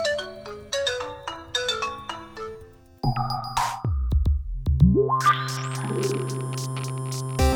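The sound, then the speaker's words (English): An old mobile phone ringtone plays a quick, bright melody of repeated electronic notes, then gives way to a rising sweep and sustained chiming tones. It is loud, with no voices. “Coming up today, NASA's next adventure, Facebook's moderators, and a new dawn for an old phone.”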